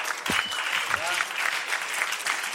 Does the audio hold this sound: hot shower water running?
no